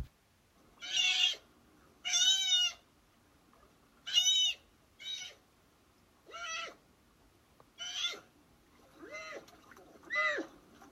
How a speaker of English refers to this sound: One of the few sounds that sea otters can make is pups screaming at their mothers. This highly annoying, high-pitched sound can sometimes be heard from kilometers away. Here is a recording of such sounds.